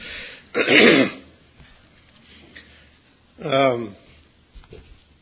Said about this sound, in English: Some people are bothered more by my clearing my throat than others.